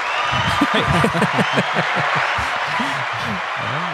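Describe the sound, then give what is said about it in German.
A steady wash of clapping runs through the whole clip, with voices talking and chuckling over it at a similar loudness. “Das ist irgendwie mal ein Applaus wert oder irgendwie sowas.”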